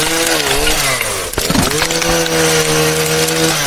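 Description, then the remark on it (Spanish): A loud chainsaw rifle, the Lancer, roars as it cuts through a Dreamcast game console, its whining pitch sagging and climbing as it grinds through the hard console, with a sharp crunching impact midway before settling into a steady buzz. “Siempre quise destrozar un Dreamcast con un rifle motosierra.”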